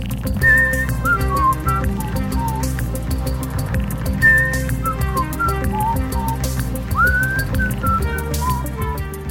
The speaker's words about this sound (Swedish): jag vet inte vad den heter, men jag gissar att jag visslar den i rätt tonart. Så om du lägger min vissling på den så kommer vi veta ifall jag har absolut gehör. Och jag skulle säga att den går så här.